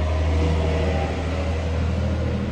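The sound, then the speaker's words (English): A bus drives past, a loud, steady low engine rumble with a broad hiss of road noise that fills the whole stretch without any voices. “Sorry, the bus just drove by.”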